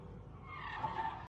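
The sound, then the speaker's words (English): A police car skids toward a woman holding a gun, with a loud tire squeal, a strained whine over rumbling road noise that lasts just over a second before cutting off abruptly. No one speaks. “She removes the gun from her own head and tries to avoid the car smashing her.”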